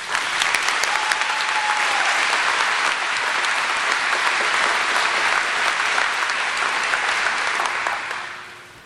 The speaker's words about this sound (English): That is the night I met my new mom and dad. Could everybody please give them a round of applause?